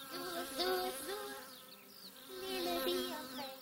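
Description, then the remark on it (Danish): Bees buzz steadily as they fly from flower to flower, their droning hum wavering up and down in pitch, with faint high chirps in the background. “Som summen, siger de små bier, mens de flyver fra blomst til blomst.”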